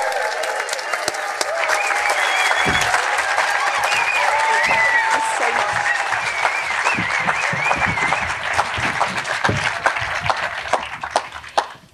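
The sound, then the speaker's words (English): An audience applauds, section by section joining in after a gentle start, the dense patter of many hands clapping sustained at a fairly loud level before thinning and trailing off near the end. “So please, section one, begin with a gentle applause.”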